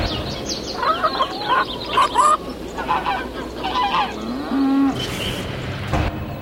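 A goose honks repeatedly in short, nasal bursts amid busy farmyard noise, with a low lowing call near the end; no one speaks.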